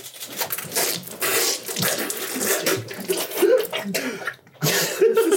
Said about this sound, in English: Oh. Everyone's coughing. Oh, jeez.